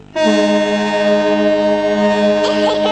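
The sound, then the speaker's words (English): A small car ferry's horn blasts in one long, loud, steady tone that holds for several seconds, rich and harmonic, with faint voices stirring near the end. “We can't get out of the car until we hear the horn.”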